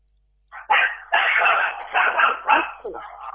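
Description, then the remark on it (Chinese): A pet dog kept at home barks in a quick series of sharp, fairly loud yaps, running together over about three seconds with brief gaps, and no one speaking over it. “你看看看，家里嘛还养狗，你跟畜生。”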